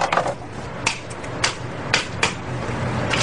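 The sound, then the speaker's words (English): A bump key, a regular key cut with a special series of cuts, is tapped into a lock to bump it: about six sharp, bright metallic knocks at uneven intervals over a steady low background hum, with no voices. “By using a special series of cuts on a regular key, plus a tap or series of taps, thieves can bump almost any lock.”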